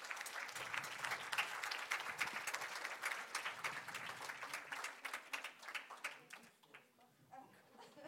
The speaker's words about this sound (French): On peut peut-être applaudir Louis Mbaka.